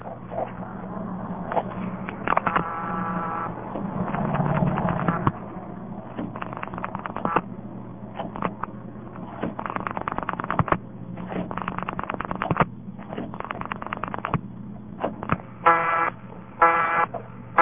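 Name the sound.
telephone line tone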